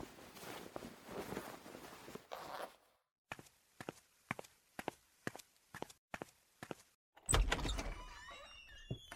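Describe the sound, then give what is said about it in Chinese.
Fabric rustles, then about nine evenly paced footsteps approach, followed by a loud clunk of a latch and a squeaky creak as a door is opened to let in an arriving family visitor. “赶快把衣服穿好，我要去给你岳父开门了。”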